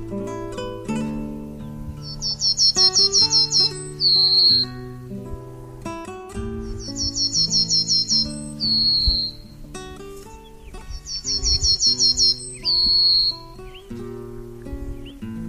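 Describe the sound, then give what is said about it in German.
A pine bunting sings three evenly spaced phrases, each a rapid high-pitched trill ending in a longer drawn-out note, clear over steady instrumental music. “Das war die Fichtenammer.”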